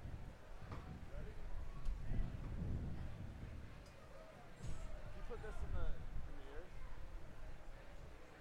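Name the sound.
strong wind blowing outdoors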